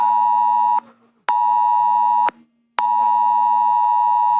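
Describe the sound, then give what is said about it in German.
A loud, harsh electronic alert tone blares in long sustained bursts broken by brief gaps, a piercing buzzy beep with rich harmonics: the mobile phone emergency warning tone of a nationwide test alarm across Germany at 11 o'clock. No one speaks. “Millionen von Handys haben diesen Warnton abgespielt.”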